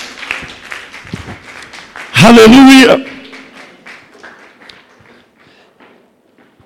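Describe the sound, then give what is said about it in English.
A church audience claps in steady, dense applause as a clap offering to God, gradually thinning and fading, broken midway by a loud shouted voice before the clapping tapers off to scattered claps. “Celebrate his faithfulness once again with a clap offering.”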